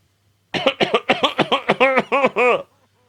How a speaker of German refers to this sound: Keiner sagt Corona, ey. Wenn ich huste.